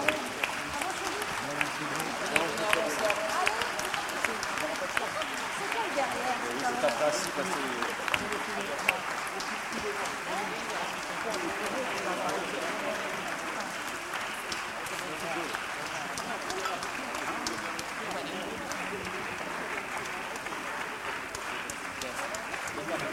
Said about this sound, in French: On va demander un petit peu de musique pour la photo et puis surtout applaudissez-la.